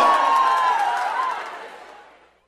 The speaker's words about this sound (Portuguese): Valeu! Faz barulho, aê! Quem gostou, dá um grito!